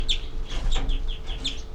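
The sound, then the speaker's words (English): A bird gives a quick series of sharp, high flight calls, about six short notes repeating in a loose rhythm, clear over a faint low background hum. “327 giving flights.”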